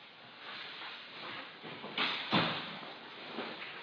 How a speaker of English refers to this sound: Let me close this door real quick.